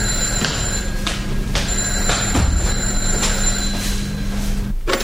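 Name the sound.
telephone ringing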